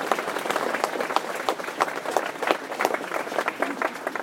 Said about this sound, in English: And finally, most importantly, please give yourself a big hand of applause because without you, there's no pleasure. Thank you.